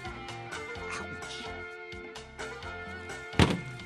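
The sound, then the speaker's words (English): A single dull thump of a head banging against a studio wall lands loudly near the end over steady background music with sustained tones. “Maybe if I just keep banging my head against the studio wall.”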